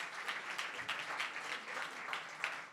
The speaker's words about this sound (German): Wir haben heute noch Besuch von einer Teenie-Gruppe. Die darf ich ganz herzlich begrüßen. Hier hinten rechts, alle mal einen fetten Applaus. Cool, dass ihr hier seid.